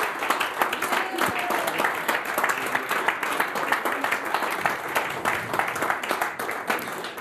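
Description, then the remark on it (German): Sustained applause from an audience thanking a group for their weekly work, a dense, steady patter of many hands clapping at an even loudness for several seconds without letting up. “Da können wir gerne nochmal einen Applaus an euch richten, weil das ist wirklich”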